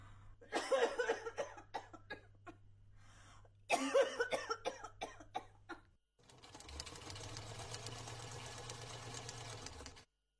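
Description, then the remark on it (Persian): Two loud fits of rapid repeated coughing, each a cluster of harsh hacking bursts, followed by several seconds of the steady mechanical whirring of a sewing machine running. “بازم که سرفه میکنی؟”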